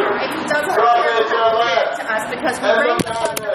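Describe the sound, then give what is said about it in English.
A camera being punched by a woman: two sharp, loud thumps land near the end, one after the other, following several seconds of agitated voices talking over each other. “That was a sound of a camera being punched by that same woman”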